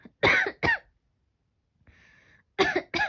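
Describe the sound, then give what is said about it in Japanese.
Four sharp coughs come in two quick pairs, separated by a short pause filled with a faint raspy breath. Loud and harsh, with no talking. “ごめん、咳が。”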